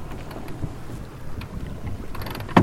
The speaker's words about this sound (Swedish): Forsar om bogen.